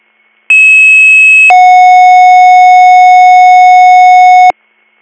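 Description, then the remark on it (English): EMS dispatch pager alert tones for a second page to Little Meadows EMS, echoed for Susquehanna County, Pelican Township, for a fall victim: a loud, steady high-pitched tone for about a second, then a lower sustained tone holding for three seconds before cutting off abruptly. No voices. “Little Meadows EMS, second page, Bradford, echoing for Susquehanna County, Pelican Township, 619 Canada Road, with a cross street of Turnpike Street and Quarry Lane, for an 83-year-old female fall victim with a head laceration, 0207.”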